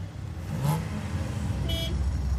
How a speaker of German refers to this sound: Ich bin jetzt hier mal angekommen im Gewerbegebiet und man hört so ein bisschen schon von Weitem, dass Motoren knattern.